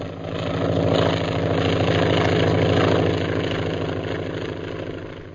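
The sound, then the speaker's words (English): A propeller airplane drones overhead with a steady, throbbing engine rumble that swells in quickly, holds loud, then eases slightly toward the end. No voices. “What's that airplane doing around here?”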